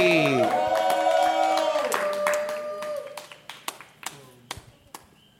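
Audience applause with crisp, scattered hand claps that thin out into sparse individual claps, following a brief swell of tonal, whooping sound at the start.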